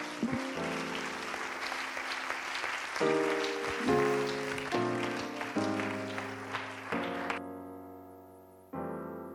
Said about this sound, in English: Let's clap our hands to the Lord as he comes.